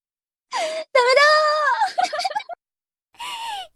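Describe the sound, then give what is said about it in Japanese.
A voice lets out three breathless, moaning gasps with brief pauses between, someone panting and catching their breath after reciting a tongue twister; no words are spoken. “でも息切れがエッチなのよ、すごく最高なのよ。”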